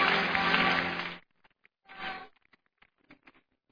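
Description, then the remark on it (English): An audience claps their hands before taking their seats, in a dense burst for about a second, then it stops abruptly. A shorter flurry of clapping follows, trailing off into a few scattered single claps. “Clap your hands and take your seat.”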